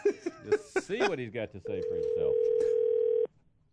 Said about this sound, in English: I was waiting for it. Yeah, there's the dial tone.